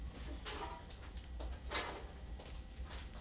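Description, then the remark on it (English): A small door pushed shut, with a few soft bumps and scraping rattles in quick succession against a quiet low hum. No one speaks. “Right, push the door up if you've got the pencils.”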